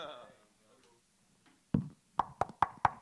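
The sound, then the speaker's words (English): Sharp knocking on a hard object, one knock followed by a short pause and then a quick, evenly spaced series of four or five raps, fairly loud, after a brief trailing voice. “I tried knocking on this.”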